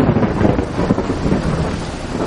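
rain

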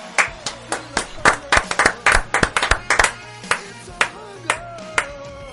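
applause and clapping

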